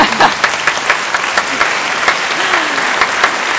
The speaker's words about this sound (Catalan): Ai, que macos aquests aplaudiments enregistrats. Hi havia el meu aquí en directe.